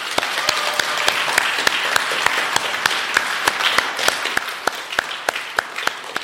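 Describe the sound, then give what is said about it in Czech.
A group of people applauds steadily for several seconds after the announcement of a couple's newborn daughter, a dense patter of hand claps with sharper individual claps standing out, moderately loud, with no talking. “Tak myslím, že tu nejsou ani jeden, ale možná třeba nás poslouchají, tak určitě pojďme zatleskat.”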